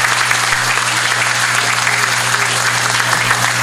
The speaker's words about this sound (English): So let's give another round of applause for our chief.